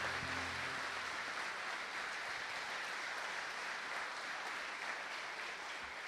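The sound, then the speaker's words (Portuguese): A large crowd at a church service claps steadily and continuously in praise of God, a dense wash of applause for several seconds with no voices standing out. “Quem crê em milagres? Então aplauda esse Deus maravilhoso.”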